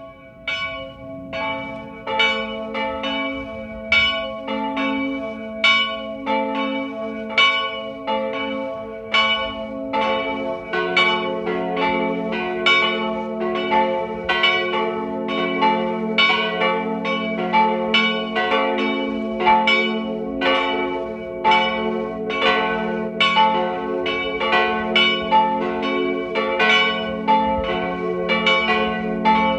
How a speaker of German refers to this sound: Es ist 12 Uhr. Sie hören die Glocken der Pfarrkirche von Winden am Neusiedlersee im Burgenland.